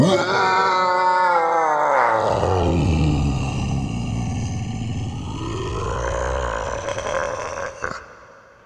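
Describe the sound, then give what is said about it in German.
A man lets out a long, loud anguished roar, his voice sliding down into a deep guttural bellow and then swelling again, sustained for several seconds without words. “Und dann beginnt er zu brüllen.”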